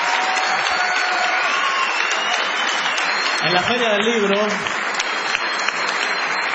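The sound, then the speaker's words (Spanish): An audience in San Nicolás, Buenos Aires province, claps steadily and loudly throughout for San Nicolás, a dense wash of applause, while a man's voice speaks briefly over it partway through. “Sí, pueden aplaudir a San Nicolás si quieren.”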